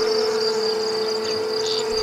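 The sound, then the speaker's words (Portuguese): Flies buzz over the belly of a rotting carcass in a steady, unbroken drone, a thin whining hum with a higher shimmer above it that holds at an even, moderate loudness throughout, with no voices present. “Zumbiam moscas sobre o ventre e o alvoroço dali saíam negros bandos de larvas a escorrer como um líquido grosso por entre esses trapos nefandos.”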